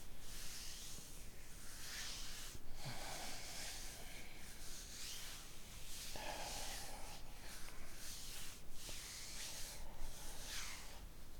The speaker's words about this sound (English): You can fall asleep on me. Take a nap while I rub you back.